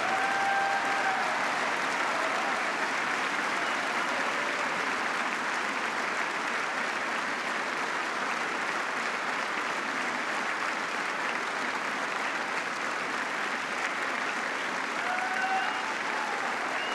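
Sustained applause from lawmakers of both parties rising from their seats at the first applause line of a speech by President Obama, a dense, steady wash of clapping that holds at an even level for the whole stretch, with a few faint cheers mixed in.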